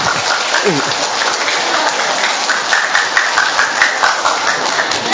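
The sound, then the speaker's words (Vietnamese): A sustained burst of audience applause, dense and steady for several seconds, with a few sharper individual claps standing out and a brief voice at the start. “Đây, cho một tràng pháo tay của thằng cứu con đây.”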